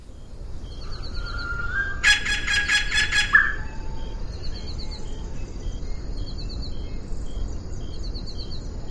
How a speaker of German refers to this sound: die in der Literatur als sehr variabel beschriebene Stimme der ausgestorbenen Assumption Weißkehlralle zu Gehör bringen zu können